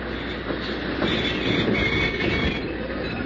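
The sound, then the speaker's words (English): A big streamliner passenger train rolls into a station with a steady, heavy rumble and rattling clatter of cars and wheels, a faint metallic squeal rising above the din. No one speaks. “Hey, look at this big streamliner”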